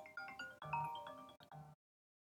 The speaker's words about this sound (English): Sorry, my phone was ringing.